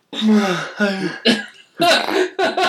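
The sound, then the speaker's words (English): A feeble, half-stifled sneeze: a few short throaty vocal bursts, voiced and breathy, coming in uneven spurts over a couple of seconds rather than one sharp explosive burst. “That was the worst. Just make it pussy ass sneeze I've ever heard.”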